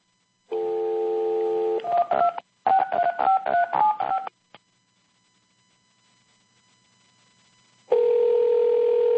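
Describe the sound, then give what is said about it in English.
A steady dial tone cuts off into a quick run of touch-tone dialing beeps at varying pitches as a number is redialed, then a brief silence before the dial tone returns, loud. “So we're doing this again. Redial.”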